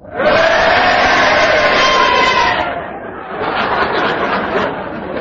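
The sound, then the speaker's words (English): A studio audience, asked whether Kenneth Williams' challenge was justified, erupts in a loud mix of cheers and drawn-out boos, a dense wall of voices that dips briefly after a few seconds and then swells again. “If you think it was unjustified, will you boo? And will you all do it now?”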